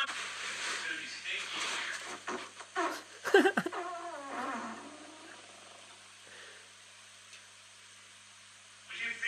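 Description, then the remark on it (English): A dog breaks wind: one loud, rasping, buzzy burst that trails off into a lower sputter, set against a steady hiss of background noise. “This is a dog, an actual dog farting.”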